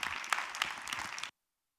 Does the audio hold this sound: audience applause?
yes